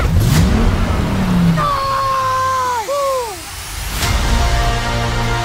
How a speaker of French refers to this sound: Allez, démarre, démarre ! T'es sûr que tu sais conduire une voiture ?